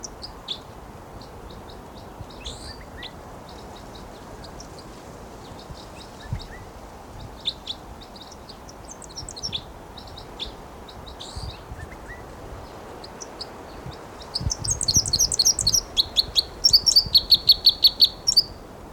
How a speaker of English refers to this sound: flight song there by the wild bird who's vocalizing. And he just moved to another perch. And this is still that wild bird who gave the flight song.